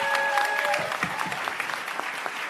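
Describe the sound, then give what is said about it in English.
An audience at a WAMC radio event applauds Alan Chartok with steady applause, a dense patter of many hands clapping at an even, moderate level, with a few brief whistle-like tones at the start. “Ladies and gentlemen, a big hand for Alan.”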